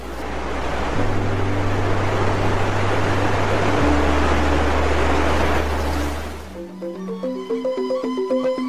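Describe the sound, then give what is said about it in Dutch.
Water of the Kanto Lampu waterfall in Bali splashes and rushes loudly and steadily onto black stone steps formed by randomly arranged rocks, with a low droning tone beneath, then fades out as a plucked melody takes over for the final two seconds. “Deze treden zorgt ervoor dat het water dat op de zwarte stenen treden valt geen brul maakt, maar er van alle kanten wat speters produceert, waardoor deze waterval er erg mooi uitziet.”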